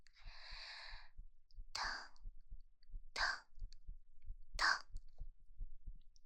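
heartbeat

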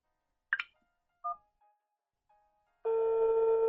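telephone ringing

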